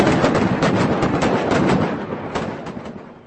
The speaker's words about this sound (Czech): Dramaticky znějící zvuky patřily sice jen dělobuchům, přesto podle všech přítomných situace v okolí litvínovského sídliště Janov v pondělí odpoledne silně připomínala válečné bojiště.